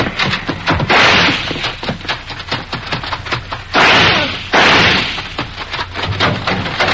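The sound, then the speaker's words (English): A rapid volley of sharp, loud gunshots cracks out in clusters, with several longer blasts of noisy crackle breaking through the barrage. “Stop or I'll shoot.”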